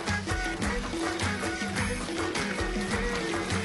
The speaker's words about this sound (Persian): آقا دیگه پر کن. آقا سر این فرد بریز آقا بریز، باید بری آب دوباره بگیری بیاری، من برای آب کشی آب میخوام.